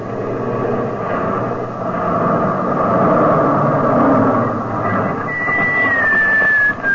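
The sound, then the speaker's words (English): A heavy military truck engine roars steadily, its rumble swelling as the truck swerves across the road to block it, with a rising whine near the end. “I gave the sergeant the order to swerve the truck across the road, blocking it.”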